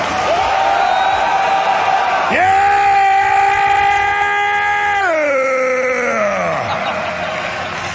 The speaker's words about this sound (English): All right, finishing up, we are here in Orlando visiting my local affiliate, A10. Yeah! Let them hear your war growl!